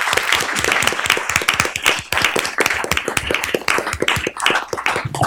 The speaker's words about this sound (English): All right. Well, thank you so much. Can we get a round of applause for our panel?